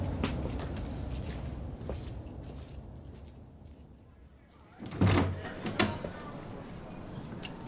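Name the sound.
door being opened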